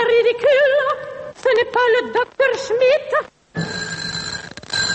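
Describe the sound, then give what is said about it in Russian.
Warbling telephone ringing sounds in three bursts, loud, followed by a short silence and then a hissing, static-filled line with faint steady tones; part of a telephone sound composition by director Marina Smirnova Fretzi. “Это уже телефонная композиция моего акустического соавтора, режиссера Марины Смирновой Фрэтци.”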